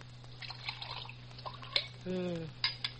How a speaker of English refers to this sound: Want to pour me some coffee?